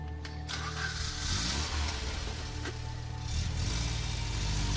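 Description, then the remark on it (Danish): A small undercover Skoda car engine hums steadily at a low pitch while driving one morning on small country roads in South Zealand, Denmark, following another car, with a constant rumble and faint shifts in tone as it moves along, no voices present. “Men så en formiddag drister de sig til at følge efter ham i deres lille undercover Skoda.”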